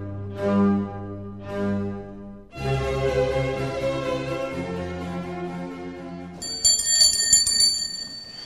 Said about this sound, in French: Nos séances de l'Académie des sciences morales commencent toujours par la petite cloche qui signale le début de la séance.